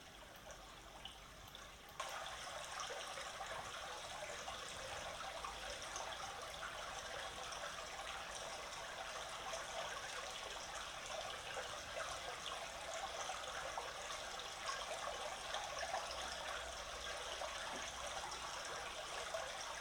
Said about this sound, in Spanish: Y ahora, para que ustedes estén tranquilos un ratico, les voy a poner el sonido del elemento agua para que ustedes puedan relajarse con el elemento que más purifica, que es el agua.